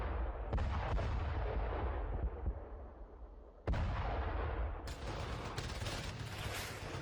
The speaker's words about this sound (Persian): اما صبحگاه هفتم ثور سال 1357 هجری خورشیدی مردم کابل با صدای توپ و غرش تانک ها از خواب بیدار شد.